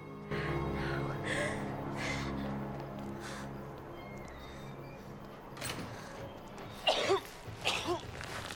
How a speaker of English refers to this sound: As she approaches, he coughs and starts to sit up.